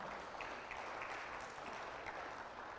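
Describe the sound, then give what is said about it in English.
The audience at Alta Mesa Church in Fort Worth claps steadily, a dense wash of many hands applauding at an even, sustained level with no voices standing out, the clapping continuing for a few seconds without letting up. “Yeah, give yourself applause.”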